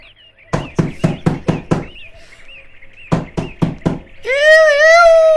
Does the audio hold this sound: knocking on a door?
yes